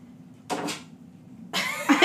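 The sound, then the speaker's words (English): Leela, a pet, claws at a door: two quick scratching strokes, a pause, then a longer stretch of rough, raspy scratching that grows louder toward the end, over a low steady hum. “That's Leela clawing at the door.”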